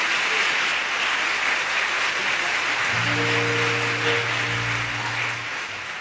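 Steady, dense applause, played on the radio station 101.9 FM CITR, fills the whole stretch without letup, and about halfway through a low, sustained musical tone rises underneath the clapping and holds to the end.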